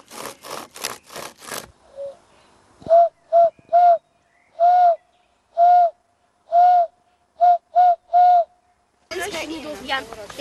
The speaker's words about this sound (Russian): На азбуке Морзе это сигнал СОС, международный сигнал бедствия.